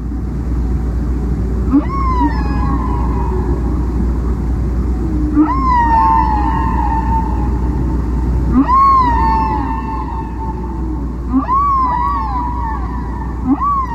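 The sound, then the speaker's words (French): Whale song: four drawn-out tonal calls with sweeping, bending pitch and harmonics, spaced a few seconds apart over a constant low underwater rumble. No voices. “En étudiant les sons émis par les baleines, en classifiant les unités sonores, ils se rendent compte que les baleines produisent des séquences qui se répètent en boucle, et qu'il s'agit donc d'un chant.”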